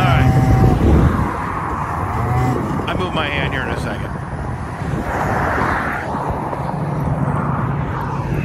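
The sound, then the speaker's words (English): An off-road vehicle engine, revved while off-roading, roars with a steady, rough drone, swelling slightly at times, while a man speaks briefly over the noise. “Like I'm Fonzie and I'm fucking revving it up before I'm there.”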